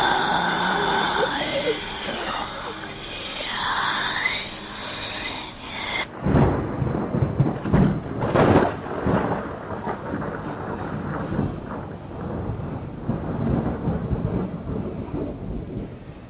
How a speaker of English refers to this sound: In any case, the captain swore up at the storm, lit a pipe, and calmly retired to his cabin for the night.